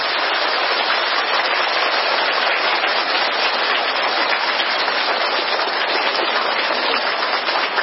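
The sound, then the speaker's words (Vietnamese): Sustained applause from a large audience welcoming a Buddhist monk lecturer, a dense, steady wash of clapping that holds at an even loudness throughout, with no voices over it. “Xin quý vị cho một tràng pháo tay để chào đón Đại Đức Giảng Sư.”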